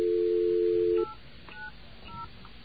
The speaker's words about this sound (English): Here comes our dial tone. No, it's not the dial tone. Where's the dial tone? Okay, there we go. Now we're going to dial away.